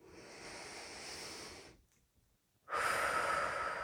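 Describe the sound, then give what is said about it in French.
Slow, deliberate breathing during a relaxation exercise: a long airy exhale, a brief silent pause, then a stronger, louder breath drawn in, with no talking. “Conscience du mouvement, de notre respiration et des sensations au niveau de notre peau.”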